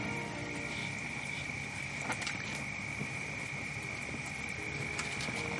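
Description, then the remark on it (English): A large male elephant with huge tusks chews bark and crushes wood between his massive molars, giving irregular dry crunches and cracks, with a few sharper snaps, over a steady high insect drone and no talking. “You can hear the bark and the wood crushing between his massive molars.”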